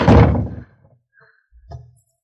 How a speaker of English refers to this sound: Put her in this room. Lock the door. She can't get out.